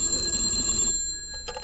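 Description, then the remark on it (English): A telephone bell at home rings once in the evening with a bright, metallic, sustained tone, then cuts off and trails into a brief faint jingle. No voices. “And the phone rang.”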